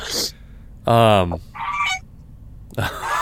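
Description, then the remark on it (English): Geese honk loudly: a long, strong nasal honk followed by a shorter, higher one, with harsh, breathy squawks at the start and end. “These are geese.”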